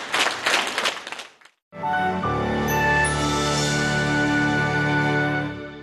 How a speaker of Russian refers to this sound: Вечер православной музыки подарил всем пришедшим на концерт теплые впечатления, которые подарили, несомненно, талантливые артисты Гавриловского хора. А взамен зрительный зал щедро одаривал артистов Гавриловского хора бурными аплодисментами.